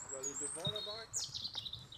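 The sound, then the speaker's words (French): Birds singing outdoors, a mix of high chirps and warbling calls overlapping, with faint voices or harmonic tones low in the background. “Disons que tant que les oiseaux chantent, tout va bien.”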